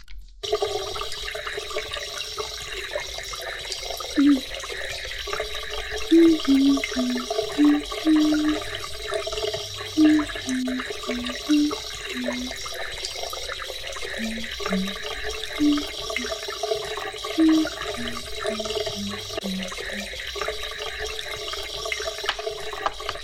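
A toilet flushes with a long, steady rush of hissing water, low gurgling tones bubbling and shifting underneath for over twenty seconds. No one speaks.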